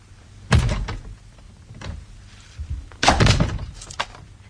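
Heavy thuds against a locked door as someone tries to force it open: two loud, splintering blows a few seconds apart, with lighter knocks and rattles between them and no voices.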